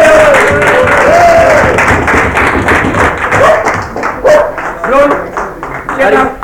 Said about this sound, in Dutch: Dan kan ik eventjes even een applaus geven, man.